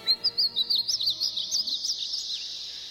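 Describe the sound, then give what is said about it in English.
A painted bunting sings from a tree near a pond in town, a rapid, high, warbling song of short sweet notes, clear over faint background hum, running continuously for a few seconds without any voices. “And then I heard their song, like a dream fading away.”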